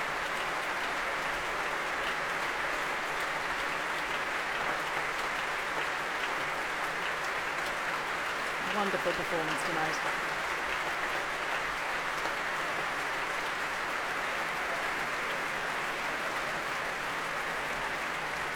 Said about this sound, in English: Lisa's back on stage to take the warm applause of the Philharmonia, as well as the audience here